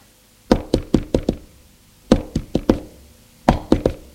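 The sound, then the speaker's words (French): A maid knocks on a bedroom door in Lyon in the morning, bringing breakfast, in three separate bursts: four quick raps, a pause, four more, then three, each knock sharp and fairly loud with no voices. “La bonne est allée frapper à la porte de la chambre d'Apolline pour lui apporter son petit déjeuner.”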